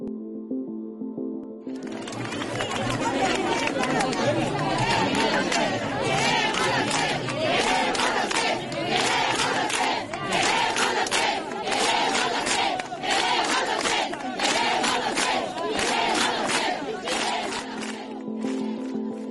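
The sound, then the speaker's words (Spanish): A large crowd of healthcare workers at IFEMA loudly chants the protest slogan "Queremos los test" (we want the tests) in unison, voices rising in rhythmic, repeated bursts after a brief quiet start and continuing steadily to the end. “Y este es un grito que han hecho hoy los sanitarios en IFEMA, al que nos sumamos también muchos trabajadores.”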